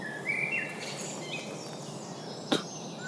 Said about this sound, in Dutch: Nog steeds merel en roodborst.